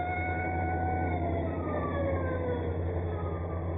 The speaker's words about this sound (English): Just an army patrol car.